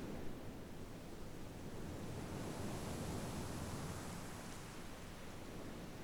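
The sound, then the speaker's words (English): Steady, soft rush of ocean surf washing in, a continuous broad hiss with a low rumble and no distinct breaking swells, unbroken by any voices. “Silence lets you hear the ocean.”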